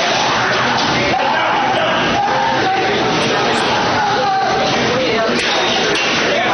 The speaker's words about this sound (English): Taser. There's him screaming. At this point, he's being detained by like four cops.